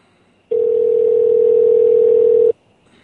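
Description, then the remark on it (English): A telephone dial tone as a number is called back: one steady, unbroken low-pitched hum that sounds loudly for about two seconds and then cuts off abruptly, with no voices over it. “I'm calling it back.”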